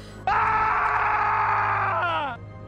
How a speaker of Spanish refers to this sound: Esa noche, un grito horrible rompió el silencio de la noria. Los perros aullaban y el viento azotaba puertas y ventanas. Todo el pueblo se despertó ante aquel desgarrador grito que provenía de la huerta.